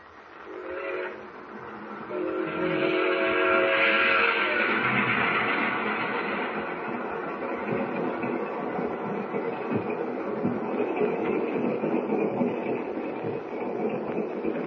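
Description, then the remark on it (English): A train whistle sounds in two blasts, a short one and then a longer sustained one, over a steady loud rumble and clatter of a moving train rolling across wheat fields at night that continues throughout. “Are you taking tonight's train”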